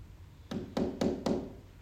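Four quick, evenly spaced knocks on a door, each a solid hollow thud with a brief ring, against a quiet background with no voices.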